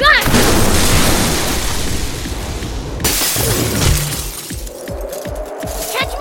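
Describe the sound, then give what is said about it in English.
A chandelier crashes down and shatters in a loud burst, followed by a second heavy crash around midway and scattered tinkling debris settling, with indistinct voices underneath. “If you break the chandelier while the power is live, then...”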